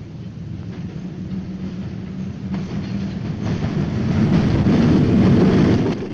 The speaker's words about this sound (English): they stop and crouch low as a train approaches.